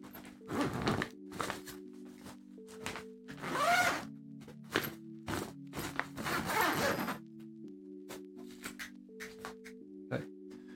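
A zipper on a mattress bag is pulled in a series of short and longer rasping strokes, moderately loud, with brief pauses between pulls and a steady low hum underneath.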